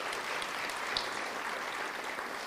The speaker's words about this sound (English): So let's give him a round of applause for that.